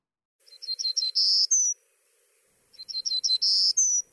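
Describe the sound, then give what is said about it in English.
A golden-cheeked warbler, an endangered yellow-faced bird of the Texas Hill Country, sings two matching phrases, each a quick run of high, buzzy notes ending in a longer bright sweep, heard clearly with a short pause between them. “And that is the song, the warble of a bird that's been on the endangered species list for 25 years.”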